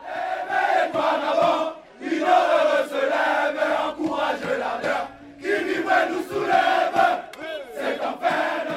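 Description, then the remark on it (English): A crowd celebrating in the streets in Africa cheers and chants in loud, rhythmic surges, voices rising and falling together in bursts with brief dips between them, no single speaker standing out. “You've also had footage of celebrating crowds.”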